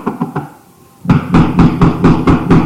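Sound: knocking on a door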